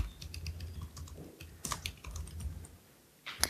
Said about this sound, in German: Okay, also in Emacs kann man tippen. Man kann ohne Modes tippen. Keine Insert-Mode oder sowas. Ja? Einfach nur schreiben.